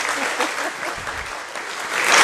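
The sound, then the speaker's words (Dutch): A crowd applauds an ensemble steadily, a dense wash of clapping with no pauses that swells a little louder toward the end. “Ja, applaus dames en heren voor het ….”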